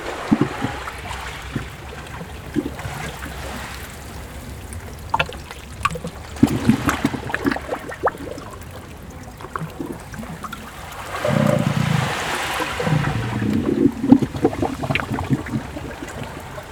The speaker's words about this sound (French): Le ressac immuable.